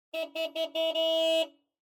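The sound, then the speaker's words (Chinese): A car horn honks in a traffic jam on the road to a concert: four quick short bursts, then one long blast before cutting off. Fairly loud, with no voices. “我说都是你害的，还在路上堵着呢。”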